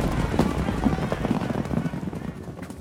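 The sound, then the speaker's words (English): Horses' hooves clip-clop in a steady, rhythmic patter, several horses moving together at a brisk pace as a tax collector and his two assistants ride out of a village, moderately loud over a dense background rumble. “As fast as he could, the tax collector and his two assistants got onto their horses and rode out of the village.”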